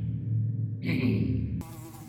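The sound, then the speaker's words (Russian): A fly takes off again and buzzes in flight around a sleeping person, a steady droning hum that shifts in tone twice as it moves about, with no voices. “Муха вновь сорвалась в полет и, облетев обрис спящего тела, опять покорила вершину острого носа.”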